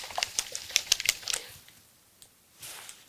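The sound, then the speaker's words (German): Quick, irregular bursts of hard clicking and rattling as an eight-sided die is shaken inside a potion bottle that has lost some of its liquid, clustered in the first second and a half, then a couple of softer rattles; the die lands on a 6. No voices. “Und ich habe jetzt, hier ist ein bisschen Flüssigkeit raus, deswegen funktioniert es nicht immer sauber mit dem Würfel. Aber ich habe jetzt eine 6 erzeugt dabei.”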